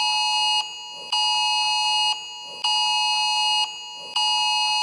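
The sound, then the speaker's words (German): A mobile phone's emergency warning test alert blares a loud, piercing electronic tone in long, repeating pulses, each broken by a brief dip in volume, with no one speaking. “Dieser Testalarm, diese ja, Düt auf dem Handy.”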